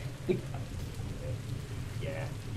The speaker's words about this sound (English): On the deck in the rain.